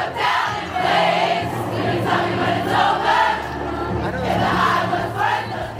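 A huge crowd singing together outside a stadium, a loud, continuous wash of many voices with a wavering melody rising and falling over a dense roar, steady for the whole stretch.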